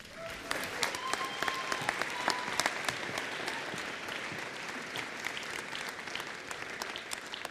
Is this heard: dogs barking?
no